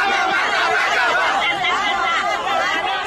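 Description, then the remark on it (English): A dense, raucous crowd of Jair Bolsonaro's supporters in the streets of Brasília, on the day he was sworn in as president of Brazil, roars with overlapping voices, shouts and scattered laughter, a steady loud wall of chatter with no pauses throughout. “Many in the raucous crowds waved and pointed their fingers in the shape of a gun, using Bolsonaro's trademark gesture.”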